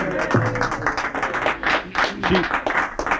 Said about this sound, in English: So we give a little a round of applause. Yeah.